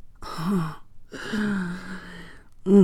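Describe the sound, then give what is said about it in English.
A woman gasps three times as a man winds his fist in her hair: two drawn-out, breathy voiced gasps with a wavering pitch, followed by a sharper, louder one cut off at the end. No words are spoken. “I gasp as he winds his fist in my hair, and that's all the invitation he needs.”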